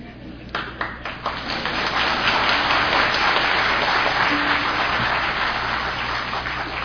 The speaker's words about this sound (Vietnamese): Xin cảm ơn quý vị, tràng pháo tay của quý vị đã làm cho tôi được yên tâm.